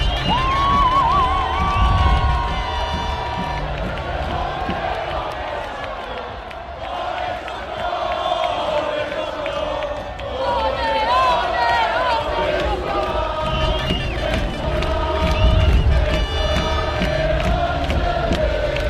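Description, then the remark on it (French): A huge crowd of about 35,000 people cheers and shouts continuously around an open-top bus parade at the Old Port at 7 p.m., a dense roar of many voices with whistles and rising yells, loud throughout. “Vous imaginez un bus à Impérial fendant une foule de 35 000 personnes.”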